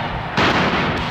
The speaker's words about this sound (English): That sound you just heard was the sound of a tear gas fired by a police officer in an attempt to thwart this unruly demonstration.